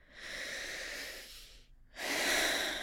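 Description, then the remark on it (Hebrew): A woman pauses to take a breath while observing her body and feelings: a slow, airy breath drawn in through the nose, a brief pause, then a longer, louder exhale with a soft hiss. No talking. “הנה, אני לוקחת רגע נשימה כי אני מתבוננת.”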